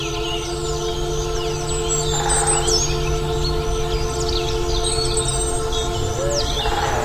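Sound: great spotted woodpecker drumming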